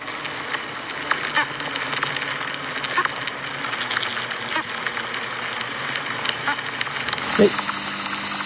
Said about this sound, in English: So then he says, "These are bees that are bumping into each other." And he included the MP3 with the YouTube video so I could see it. It's called Bees Whoop.